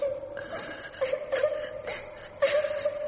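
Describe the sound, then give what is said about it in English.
A child crying in soft, rhythmic whimpering sobs that rise in short bursts about every half second, fairly faint, with no one talking over it. “Someone crying. A child crying?”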